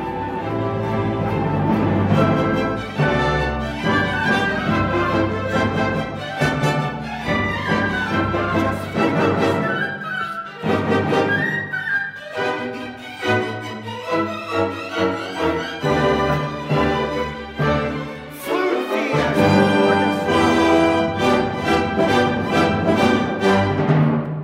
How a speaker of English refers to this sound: Now it's full orchestra.